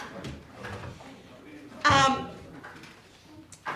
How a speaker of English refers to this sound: We'll shut the door. That's okay.